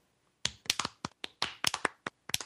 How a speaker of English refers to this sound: So for all you folks out there that are listening that, you know, that follow us or listen to the show and, you know, contributed some money or just shared a link, let's clap for them.